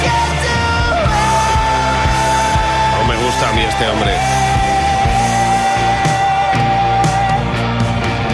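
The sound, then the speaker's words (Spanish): A loud pop song plays with a male singer shouting a long held line over a steady thumping beat and dense backing, while someone briefly talks over the music. “Bueno, aquí solo grita, pero ¿tú qué entiendes?”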